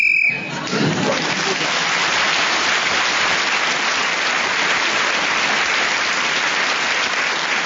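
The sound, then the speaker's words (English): A brief, shrill whistle blast sounds right at the start, blown to end the round, quickly swallowed by loud, sustained applause from an audience that continues to the end. “So Tony Hawkes was then speaking as the whistle went, and whoever is doing that gets an extra point.”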